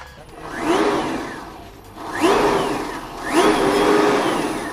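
An electric car motor, running on batteries from a Nissan Leaf, whirs up three times in a row, each a rising, steady whine that swells and fades, moderately loud with no engine rumble and no one talking.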